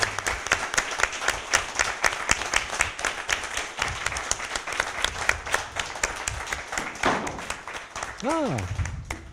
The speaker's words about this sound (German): Also mehr als einen Applaus, bitte.